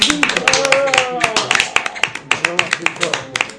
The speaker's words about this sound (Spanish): Tiene un aplauso.